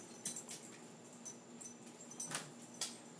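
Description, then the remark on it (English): A dog named Penny crunches on ice cubes, making a few irregular, brittle cracks and crunches over a quiet, low hum, with no one speaking. “And Penny is still chewing on her ice cubes.”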